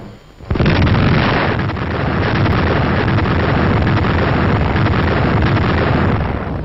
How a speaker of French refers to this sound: Et dans la nuit, seul l'œil de la caméra a pu fixer en face l'éclair éblouissant de la troisième bombe française. On entend ici des actualités françaises qui datent du 4 janvier 1961.